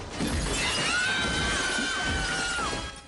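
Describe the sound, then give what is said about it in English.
Window glass shatters in a loud, sharp crash as a boot kicks in a window high up in a bedroom wall, followed by bright ringing and tinkling shards that hang on for a couple of seconds before fading. No one speaks. “A boot kicks in the window high up in the bedroom wall.”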